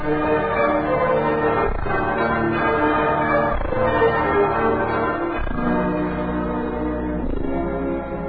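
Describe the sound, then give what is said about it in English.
A large bell, a new Liberty Bell being dedicated, tolls slowly and steadily. It is struck about four times at even intervals, each strike blooming into a rich, sustained ring that never fully fades between hits. The bell is loud. “Ladies and gentlemen, to carry on with our dedication of our new Liberty Bell,”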